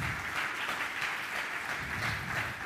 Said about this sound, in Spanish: Vamos a darle un fuerte aplauso y vamos a honrar a nuestro papá. Un fuerte aplauso.